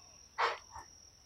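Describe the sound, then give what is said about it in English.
A thin, steady cricket trill hums through a very quiet night, joined by a short soft rustle and a fainter follow-up noise. “It is so silent you can hear each cricket knot.”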